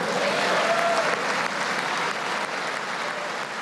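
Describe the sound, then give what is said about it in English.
Sustained applause and cheers from Republicans in the audience at President Trump's State of the Union address to both houses of Congress, dense and steady throughout, with a faint whistle or cheer rising briefly near the start before the clapping slowly tapers. “Republicans greeted his remarks with applause, cheers, and standing ovations.”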